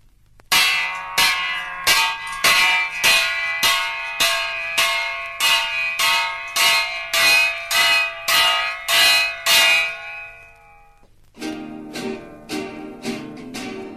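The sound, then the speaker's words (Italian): A church bell rings loud, struck in a rapid, steady series of about sixteen ringing clangs that hum on between hits, then stops; after a short gap, a lower, busier ringing follows. “Suonata sta campana, suonata sta campana.”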